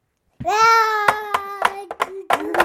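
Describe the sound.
A young child lets out a long, steady, high-pitched vocal roar in imitation of a lion while putting lion figures into an ark, as several sharp taps or knocks punctuate it.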